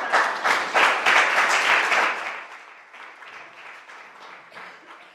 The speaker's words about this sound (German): Schön, dass ihr alle da seid. Ich denke, das ist auch nochmal ein Applaus wert.